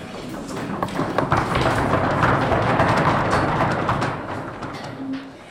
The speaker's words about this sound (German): Die Vorlesung zur Kunst in der Romantik von Wolfgang Brassard ist zu Ende. Die Studierenden klopfen anerkennend auf die Tische. Der Applaus der Akademiker.